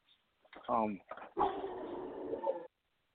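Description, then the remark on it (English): A dog gives a short burst of high, whiny yelps, then a longer, rough, strained vocalizing that blends barking and whimpering for about a second before cutting off abruptly. “This dog. This dog is possessed.”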